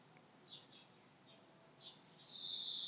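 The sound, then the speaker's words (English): A few faint, high chirps, then a hungry baby bird's begging call from a nest high in a tree rises into a loud, sustained, high-pitched rasping screech lasting about a second, with no talking. “It's probably a hungry baby.”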